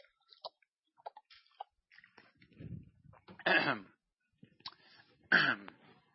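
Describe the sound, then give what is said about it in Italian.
Someone takes a drink of water, with small wet mouth clicks and a soft swallow, followed by two rough throat-clearing bursts. No one speaks. “Mi ha detto il dottore che devo bere più acqua, scusate.”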